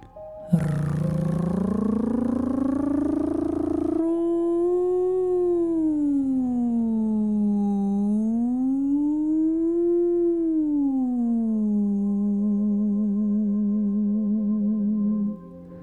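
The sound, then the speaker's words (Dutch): A single voice holds a long 'oo' vowel, sliding slowly up and down in pitch like a siren for about fifteen seconds, then ends on a wavering, shaky tone. “En dan gaan we ook weer met de oe, de klank, glijden als een sirene.”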